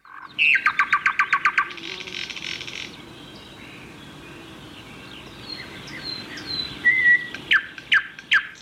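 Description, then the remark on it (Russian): Birds sing in a forest, with rapid repeated chirps at the start, then overlapping whistles and trills from several birds, ending in another burst of quick notes. No one speaks. “Ну, вот оно, пение настоящее.”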